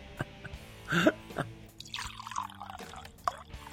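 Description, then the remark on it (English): Wine being poured into a glass, with a few sharp drips and splashes at the start and a softer, steady gurgling trickle after, moderately loud with no one talking. “I think so, but hang on, let me pour myself a little drink for this episode.”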